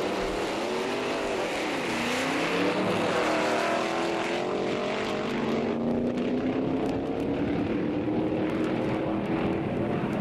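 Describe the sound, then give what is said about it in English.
A loud racing car engine sound effect roars steadily, its pitch climbing and shifting as it revs and accelerates, filling the whole recording with no voices. “When the tracks were instrumental, they were either indistinguishable from surf music, or they would maybe add some car sound effects.”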